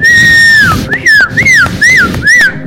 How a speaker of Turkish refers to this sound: Lütfen ıslık çalar mısınız?